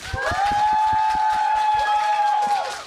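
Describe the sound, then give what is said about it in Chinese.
An audience at a live show recording claps in a steady patter of hand claps to welcome two Douyin content creators, while a long, sustained high whistle rings over them for nearly the whole clip, fading out just before the end. “让我们掌声欢迎魏无暇、李耀宏。”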